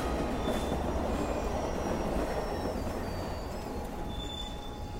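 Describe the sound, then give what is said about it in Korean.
A train rumbles steadily into a station, its heavy low roar filling the scene while thin metallic wheel squeals ring out above it. The noise stays loud and continuous, with no one speaking. “머지않아 역에 열차가 들어왔습니다.”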